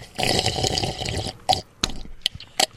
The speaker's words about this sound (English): He's blowing bubbles again.